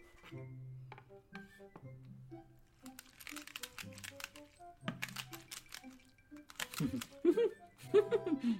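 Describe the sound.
Washed, hulled and cut strawberries are crushed into a purée in a run of wet, squelchy squishes and crackles, uneven and fairly soft, with bits of voice and a chuckle coming in toward the end.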